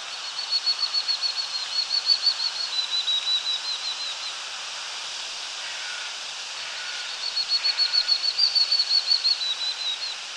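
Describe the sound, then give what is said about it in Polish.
An unusual willow warbler song recorded in Reagan Park: two clear bouts of rapid, evenly repeated high notes, each lasting a few seconds with a pause between, sung alone against a soft hiss of outdoor background. “A teraz głos, który ja nagrałem w parku Reagana wraz ze zdjęciem tego dziwnego piecuszka.”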